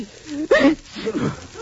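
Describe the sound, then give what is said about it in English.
A single sharp sneeze from someone suffering from a cold, in a radio commercial for Minute Rub chest rub, bursts out loud and abrupt after a soft vocal lead-in, followed by a brief stretch of muffled voiced sounds. “Gesundheit.”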